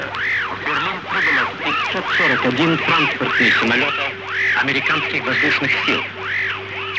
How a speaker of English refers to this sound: The interference, the jamming of the broadcast is what diplomats mean when they speak of the Iron Curtain.